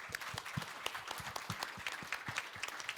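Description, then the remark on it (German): Steady applause from a group, many overlapping claps forming a dense, even patter with a few sharper hand claps standing out, moderately loud and with no voices. “also erstmal Applaus.”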